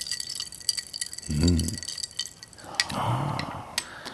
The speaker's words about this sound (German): In dem Getränk waren Weintrauben unten drin. Oben schwobten ein paar Eiswürfel. Das ist jetzt hier genauso.